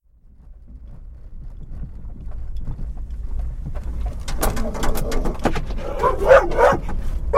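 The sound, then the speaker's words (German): The dog Tabu barks inside a car in a rapid, agitated series of sharp yaps and whines as another dog passes by in sight, over the steady low rumble of the running car, starting quietly and growing louder and more frantic toward the end. “So klingt das normalerweise, wenn mein Hund Tabu mit mir im Auto ist und ein anderer Hund in Sichtweite vorbeiläuft.”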